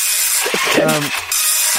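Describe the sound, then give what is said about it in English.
A slow printer grinds away with a steady, hissing mechanical noise as it prints, a brief whirring motor tone rising in the middle before the rough, continuous churn carries on. “A slow printer.”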